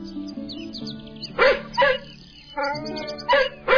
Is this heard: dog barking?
yes